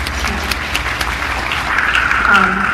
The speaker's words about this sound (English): So applaud yourself for all of that.